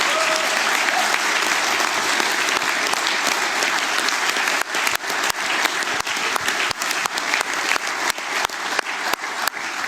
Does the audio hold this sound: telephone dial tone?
no